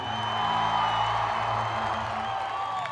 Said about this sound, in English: applause, everybody. Feel it.